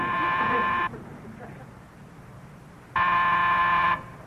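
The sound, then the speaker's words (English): A doorbell buzzer sounds twice, each a loud, harsh, steady electric buzz lasting about a second, separated by a pause of roughly two seconds. “Somebody get that. Chip, answer the door.”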